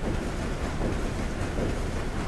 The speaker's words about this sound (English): For 8 days, he listened to the ship's engine chug away. It probably sounded something like this.